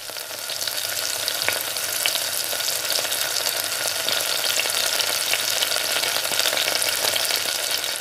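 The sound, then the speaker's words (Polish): Breadcrumb-coated rice balls with filling, usually meat ragù sauce, sizzle in hot oil as they deep-fry: a steady, bright crackling hiss with scattered sharp pops that holds at an even loudness throughout, with no voices. “Amatorzy panierowanych przysmaków zapewne nie przejdą obojętnie obok ryżowych kulek z nadzieniem, najczęściej z mięsnego sosu ragu, obtoczonych w bułce tartej i smażonych na głębokim tłuszczu.”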